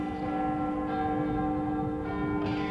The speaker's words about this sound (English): And then, after the lapse of 60 minutes, which embraced 3,600 seconds of the time that flies, there came yet another chiming of the clock.